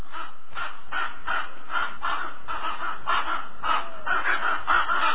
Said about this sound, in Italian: Sì, ragionare con i corvi. Guardali là, brutti e neri. Cadessero stecchiti tutti quanti.